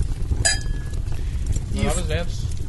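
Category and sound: household object, glasses clinking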